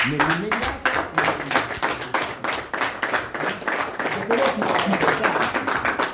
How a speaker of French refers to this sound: Là, il vient d'annoncer qu'en fait, tout continue. C'est les bergers qui ont applaudi cette bonne nouvelle, de dire tout continue comme avant.